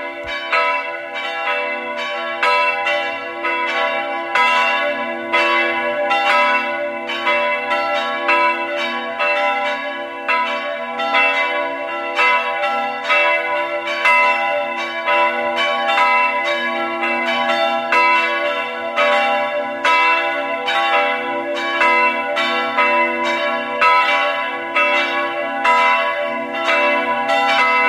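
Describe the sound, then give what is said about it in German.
The bells of the Catholic parish church of Stadt Schlaining in Burgenland ring at 12 noon, continuously in a full, overlapping peal, their bright tones clanging in a steady rhythm and filling the air loudly for nearly half a minute, with no voices heard. “Sie hören die Glocken der katholischen Pfarrkirche von Stadt Schleining im Burgenland.”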